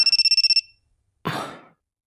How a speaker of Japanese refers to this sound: にゃあ、何の音じゃ。 あ、電話か。